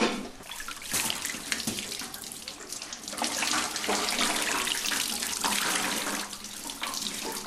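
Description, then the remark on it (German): Water splashes and pours steadily from wet laundry being wrung out after rinsing it in a river to remove soap residue, a continuous gushing with brief surges and no voices. “Ich krieg das ganze Wasser gar nicht raus.”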